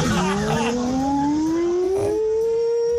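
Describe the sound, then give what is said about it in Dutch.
A listener's voice, sent in by message, imitates an air raid siren: one long, loud, sustained wail that slowly climbs in pitch, with a slightly rough, buzzy edge. There is no other talking. “wij waren benieuwd of onze luisteraars ook een beetje lekker luchtalarm in huis hebben”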